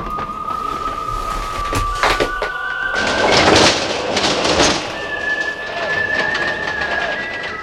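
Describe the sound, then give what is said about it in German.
A ghost train car carrying three riders rattles and clatters along bumpy tracks into the dark of an amusement park ghost train ride, with irregular thumps and a sustained metallic squeal running through. Fairly loud, no voices. “Die drei kauften sich Fahrkarten und stiegen in einen Wagen, der auf holprigen Gleisen ins Dunkel der Geisterbahn ratterte.”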